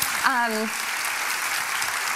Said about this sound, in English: The end. Okay. All right, how about a round of applause right now?